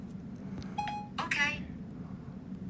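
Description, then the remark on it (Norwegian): A phone dialing emergency services: a short electronic beep followed by a quick cluster of keypad tones, over a steady low background murmur. “Se, å, nå ringer nødetatene.”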